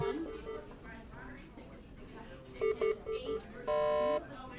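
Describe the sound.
Hospital patient monitor beeping: a few short electronic beeps in quick succession, then one longer, steady harmonic tone, all over a soft background murmur of voices.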